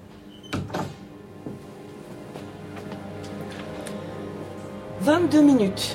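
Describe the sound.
A door is shut near the start, giving two sharp thuds in quick succession, followed by quiet and then a brief burst of someone's voice at the end.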